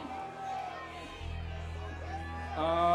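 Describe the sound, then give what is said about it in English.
A crowd shrieks and yells in a continuous roar, high excited voices rising over a low rumble and swelling louder toward the end. “Well, these people have just been shrieking and yelling like a bunch of tasteless fools, but where are you guys from?”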